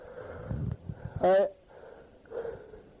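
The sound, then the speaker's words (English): A person lets out a single loud, breathy yawn, a short voiced groan with a wavering pitch that swells and fades, surrounded by softer murmuring and breathing. “you hear me yawning?”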